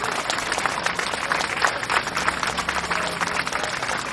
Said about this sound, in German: Aber zuerst bitte ich um einen großen Applaus für alle Teams.